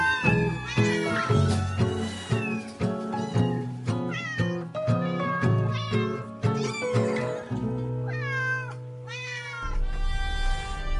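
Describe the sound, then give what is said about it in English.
Kittens meow over and over, high and plaintive, with several cries overlapping. Steady music with a low sustained bass plays underneath, and the meows rise and fall above it. “That was What's It Like to Be a Migrant, as told by kittens.”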